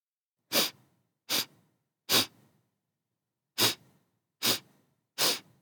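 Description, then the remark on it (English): Six short, sharp nasal sniffs, in two quick sets of three with a pause between, each a brief airy burst with no talking. “Yes, I'm sniffing with my nose.”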